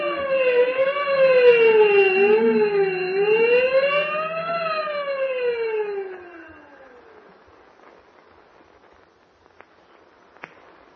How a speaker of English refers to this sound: The cell's empty. He busted out. Ring the alarm bell. Hurry. Close all cell blocks. Prisoner escape.